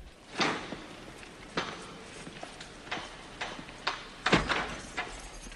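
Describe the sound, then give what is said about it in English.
A gym door with wire-meshed glass swings shut, followed by a series of sharp metallic clicks and rattles as a man locks it behind him, moderately loud, with no voices. “locks the door behind him”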